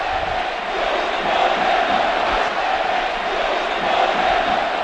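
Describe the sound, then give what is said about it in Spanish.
A huge crowd of Atlético de Madrid fans, practically the whole Estadio Metropolitano, chants "El escudo no se toca" in unison, a dense, continuous roar of many voices holding a steady tone with rhythmic swells, loud throughout with no single voice standing out. “El escudo no se toca, cantaba la afición del Atlético de Madrid y no eran cuatro, ya lo decíamos antes, no eran cuatro, era prácticamente todo el estadio.”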